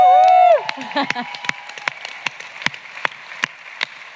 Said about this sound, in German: Ey, Publikum, Leute. Wow. Ja, das sind Leute, echte Menschen. Ja. Kennt man gar nicht mehr. Ja, mach das noch einmal. Noch einmal Applaus, Sie haben es so lange nicht gehört.